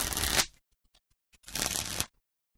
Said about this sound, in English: Would you like to play cards? Yes, I'd like to play Snap. I'll shuffle the cards.